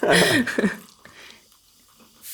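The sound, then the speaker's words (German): An Aperol Spritz with orange is poured into a glass in one brief, loud, splashy burst, followed by near-quiet with faint fizzing and a small clink. “Und das ist Aperol Spritz. Und den trinken wir jetzt hier.”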